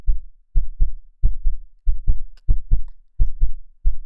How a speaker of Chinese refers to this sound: 这是你第一次参加运动会时的心跳哦，记得吗？你跑800米，我在终点等你。